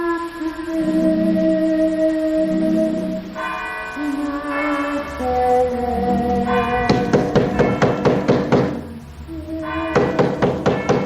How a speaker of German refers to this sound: Was klopft mit den Mitternachtsschlägen vom Kirchturm um die Wette?